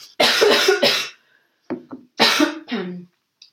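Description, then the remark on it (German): A person with a slight cold coughs several times, a burst of harsh, chesty coughs followed by a couple of short ones after a brief pause, then another loud cough cluster. “Und Entschuldigung, jetzt muss ich mal kurz husten.”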